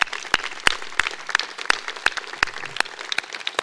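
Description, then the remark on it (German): An audience at a church service applauds the brass players with steady, moderately loud clapping, sharp individual claps standing out from a dense patter of many hands, with no voices. “Können wir mal klatschen.”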